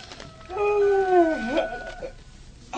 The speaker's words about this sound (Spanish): Ya todo esto recién despuntaba el día, y doña Fidela abrió las tremendas quijadas en un bostezo interminable.